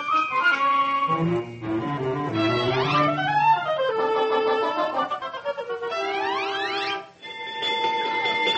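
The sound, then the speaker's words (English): An alarm bell rings loudly and steadily for several seconds, its bright tones sliding upward in sweeping wails twice before breaking off and starting again, with no voices. “That's a three-alarm warning from the conscience.”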